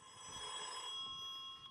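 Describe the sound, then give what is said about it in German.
A telephone bell rings continuously with a bright, metallic jangle, steady for the whole short stretch, with no voices over it. “Telefon? Hat das nicht eben geklingelt?”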